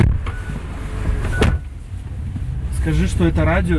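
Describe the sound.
Steady low rumble of a car's interior as a 39-year-old Belarusian man drives, with a few brief clicks and mechanical sounds, and a voice speaking near the end.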